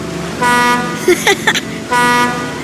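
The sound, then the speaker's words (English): Two loud, steady blasts of a boat horn as the boat pulls out of port, each lasting about a third of a second, separated by a pause with a few short, brief sounds in between. “Can I honk the horn now, Dad?”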